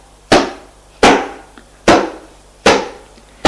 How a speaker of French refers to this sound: Et il cogne sur la porte avec son épaule. Cogne, cogne, cogne. Mais rien n'y fait.